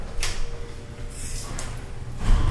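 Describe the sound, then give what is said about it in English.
A door is handled with a few short scraping, clunking sounds and a louder thump near the end, against a steady low background rumble, with no one speaking. “And right there's the door we were just trying to come in.”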